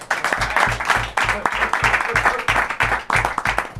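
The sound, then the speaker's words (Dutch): A crowd breaks into loud, sustained applause, a dense wash of many hands clapping that continues throughout, with a steady rhythmic low thumping pulsing beneath it. “Jongens, applaus!”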